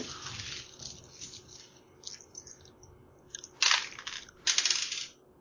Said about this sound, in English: That was a good damage roll until it fell off the keyboard.